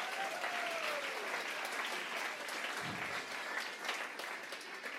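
Steady audience applause fills the whole stretch, a dense crackle of many hands clapping at an even level with no talking over it.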